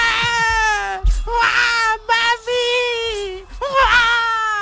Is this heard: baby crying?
yes